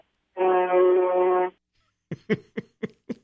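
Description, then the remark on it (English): A truck horn, sounded by a Southern Illinois truck driver, gives one long, loud, steady blast, then after a brief pause gives five short, evenly spaced toots. No one speaks. “A kind of an anonymous, would they call that a honk or a toot?”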